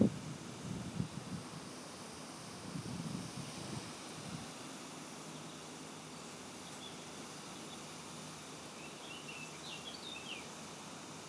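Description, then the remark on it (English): A steady, hissing rush of falling water from a man-made waterfall on a hot day runs throughout, with a few low rumbling gusts early on and faint bird chirps near the end. No one speaks. “Noise you can hear, you might be able to hear like a rushing noise.”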